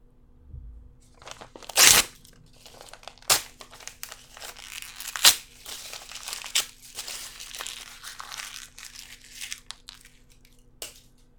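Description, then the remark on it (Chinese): A love letter is torn up, a loud rip near the start followed by several more crinkly tears and crumpling rustles spread over the next several seconds, with no voices. “下次遇上这样的男孩子，直接把情书撕碎了，丢给他。”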